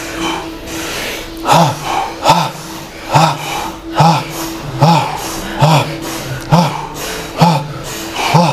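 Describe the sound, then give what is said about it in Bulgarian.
Bhastrika (forceful bellows-style) breathing: a steady series of sharp, loud breaths pumping in and out at a quick, even rhythm, with a faint low hum underneath. “Дишай. Бастрика дишане.”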